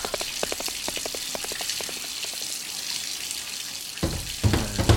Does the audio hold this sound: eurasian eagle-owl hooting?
no